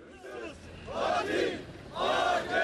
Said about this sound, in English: A crowd of people marching down a street in Ankara as Turkish authorities face accusations from citizens angry over the attack.